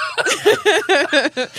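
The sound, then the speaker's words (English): A person coughs in a quick run of about six short, voiced bursts, fairly loud, almost laugh-like in rhythm, with no talking alongside. “I actually am coughing.”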